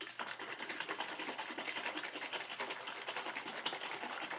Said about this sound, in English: So I've got said bottle out of the fridge. And I'm not really sure if you're supposed to shake it or not, but I will.